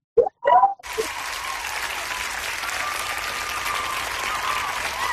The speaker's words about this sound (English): We're filling in the applause there. That's great.